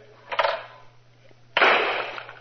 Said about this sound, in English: Well, the rules allow me to load only two shells in this gun of mine. The shells are in. I'll see what I can do with two birds.